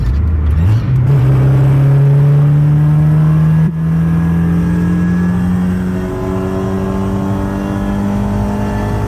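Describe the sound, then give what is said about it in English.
A Honda Civic engine without VTEC drones loudly, its pitch climbing slowly and steadily as it revs for several seconds, with no one talking. “Yeah, it's Honda Civic. I was like, when is VTEC kicking in?”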